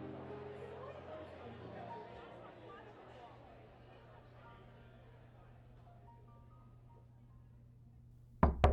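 Knocking on a hotel room door: after a stretch of low hum and faint background murmur, a few sharp, loud knocks land close together right at the end.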